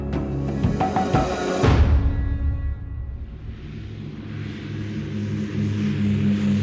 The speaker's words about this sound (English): At 7:15 a.m., on July the 18th, 1936, a small Dragon Rapid airplane takes off from Croydon Airfield, just south of London, England.